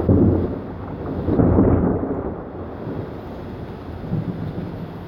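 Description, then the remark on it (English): A steady wash of light rain, not falling very hard, hisses onto an enclosed screened porch, with low rumbling surges and gusty buffeting rising and falling throughout; no one speaks. “Not raining real hard.”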